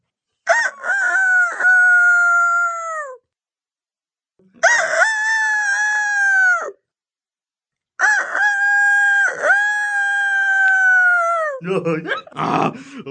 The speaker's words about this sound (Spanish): Luego pasaron por una granja en la que un gallo quiquiricaba con todas sus fuerzas.